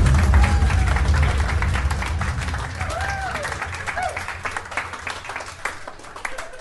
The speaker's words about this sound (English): Round of applause!